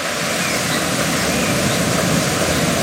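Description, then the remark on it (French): A steady, dense roar of the Rivière d'Argent, which comes from the lake of Huelgoat, falls several metres and winds between rocks at the Grotte du Diable. Loud, with a broad rushing texture that never lets up and a slightly echoing quality. No voices. “Vous entendez, elle vient du lac de Huelguat et chute de plusieurs mètres, serpente ensuite entre les rochers.”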